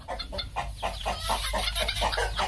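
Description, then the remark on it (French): A crowd of chickens clucking busily at a poultry farm near a river, raised as live food for African rock pythons: many short overlapping clucks in a steady rhythm over a low constant rumble, with no voices. “Pas loin de la rivière, il y a une ferme d'élevage de volailles qui sert de nourriture aux pitons de Seba, dit pitons d'Afrique.”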